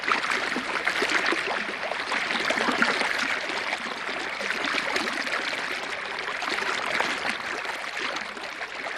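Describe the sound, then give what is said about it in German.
A recorded babbling brook, an art piece arranged for radio, runs steadily throughout, its bright, dense rush of water fairly loud, with a fine bubbling texture and no voices. “Fürs Radio hat Peter Weibel die Bach-Komposition bearbeitet”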